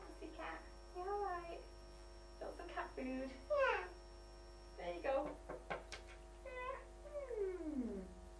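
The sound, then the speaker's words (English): A child's voice imitates a cat, pretending to be a pussy cat, drawing out several high, sliding meows one after another over a steady low electrical hum. “Hello, pussy cat. Meow.”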